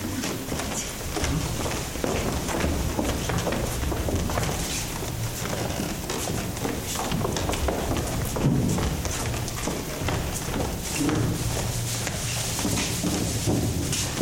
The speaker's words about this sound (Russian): Давайте расставим стулья, создадим зрительный зал.